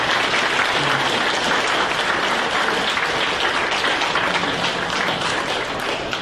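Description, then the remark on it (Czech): A large audience applauds steadily and loudly, dense clapping filling the whole stretch without pause, with a faint murmur of the crowd beneath. “A pokud si zatleskáte, tak se zatleskáte i sami sobě.”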